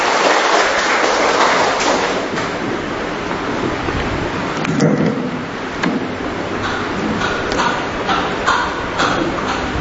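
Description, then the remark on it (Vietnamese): A large crowd claps steadily and loudly for about ten seconds in honour of all those named after Saint Joseph the Worker, on 1 May, a dense crackling wash of many hands that holds its level throughout without speech over it. “Chúc mừng tất cả những người nhận Thánh Giuse Thợ, một tràng pháo tay thật lớn thưa anh chị em.”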